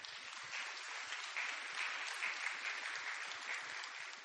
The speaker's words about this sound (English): You can clap.